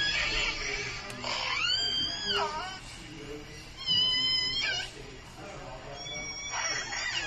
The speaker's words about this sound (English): some wonderful whale sounds from an exhibit at the Port Townsend Marine Science Center Museum, which is currently on the beach at Fort Worden.